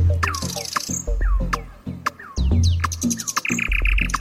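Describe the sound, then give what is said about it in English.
A nightingale sings in a rich, varied burst of whistles, chirps and rapid trills, phrases tumbling one after another, over a low steady hum in the background. “just like this nightingale, the bird that sings out in the dark.”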